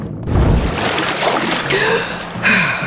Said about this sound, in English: When she flipped over to begin her ascent, she noticed the hull of a speedboat cutting through the water toward the shallows.